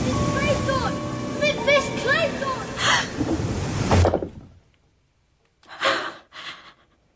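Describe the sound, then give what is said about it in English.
A steady, full wash of sea waves rolls for several seconds with high chirping calls over it, then cuts to quiet before two short breathy exhalations. “Sound of the sea. Could listen to it for hours.”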